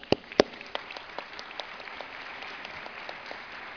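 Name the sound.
audience applause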